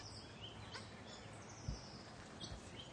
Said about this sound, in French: Mésange. La mésange. Charbonnière. Toujours.